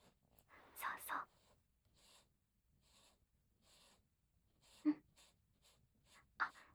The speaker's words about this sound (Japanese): じゃあ、まずはこの原稿をと。バツ印のところを筆ペンで均一に塗っていくの。